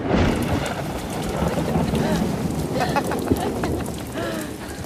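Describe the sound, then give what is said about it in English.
Steady, heavy rain pours down in a dense, continuous hiss with scattered patter, loud, with a breath of wind and faint voices buried beneath it, falling in palace grounds as people run into a columned gazebo to shelter. “Albert and Victoria run into a columned gazebo to shelter from the rain.”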